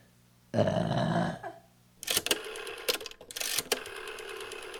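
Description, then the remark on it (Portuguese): A single loud, drawn-out burp lasting nearly a second, in a studio, followed after a short pause by irregular clattering and rattling noises. “E aí, se eu quiser, tipo, arrotar, o que que eu faço? Arrota.”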